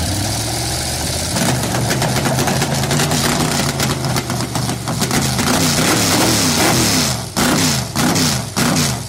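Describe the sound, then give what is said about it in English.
Race car engines fire up with a sudden loud roar, then settle into a rough, rumbling idle with repeated revving blips, powerful, no voices. “gentlemen, start your engines.”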